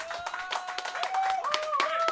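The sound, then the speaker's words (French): An audience claps steadily for a couple of seconds to welcome the evening's guest, a dense, continuous patter of many hands, with a sustained high tone gliding along above the applause. “S'il vous plaît, mesdames, messieurs, on peut applaudir l'excellent”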